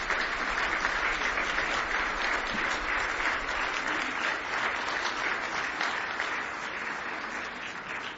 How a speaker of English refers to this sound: Would you give Jesus a great hand and clap of praise?